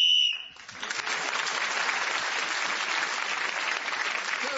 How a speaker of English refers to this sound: Then speaking as the whistle went, he gained that extra point.